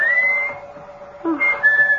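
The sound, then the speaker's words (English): A person whistles to call someone: a clear, sustained rising whistle, a brief pause, then a second whistled phrase, with no talking. “whistling for you.”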